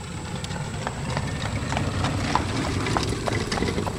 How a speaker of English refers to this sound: My cousin Eli just went by in his horse and buggy, and I waved, and he kind of gave me a dirty look and kept going, so take that as not a welcome.